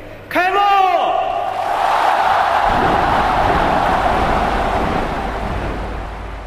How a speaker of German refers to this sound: Kurz vor Mitternacht wurde über der Stadt ein Feuerwerk gezündet mit 29.000 Böllerschüssen und Raketen.